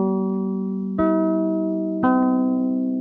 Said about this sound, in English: And I'm sure you've heard that sound before. It was the NBC chimes.